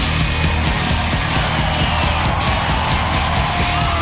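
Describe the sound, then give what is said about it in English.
A dense, continuous roar of teenagers yelling and whooping together at a convention rock performance on a hotel stage, loud and sustained throughout, with no pause or single voice standing out. “A convention performance within the hotel, complete with screaming teenagers.”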